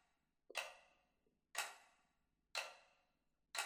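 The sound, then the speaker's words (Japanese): A clock ticks steadily, about once per second, with four crisp ticks that ring briefly and fade between beats. No one speaks. “この時計の音を聞きながら、今度は体の力を抜いていくの。”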